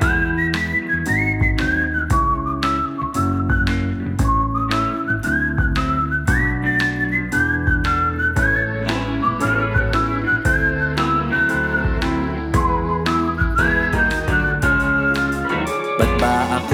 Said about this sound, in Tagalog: Instrumental na may sipol.